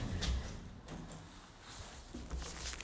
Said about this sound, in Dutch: De lift duurt even. Die is nooit zo snel. Bejaardenflat. Yes. Hij gaat open.